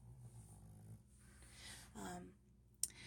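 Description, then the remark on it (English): An itchy dog scratches itself, with a low grumbling snuffle followed by a few brief rustling bursts and a sharp tap near the end; no one speaks. “My poor dog is itchy. Aren't you itchy, sweetie?”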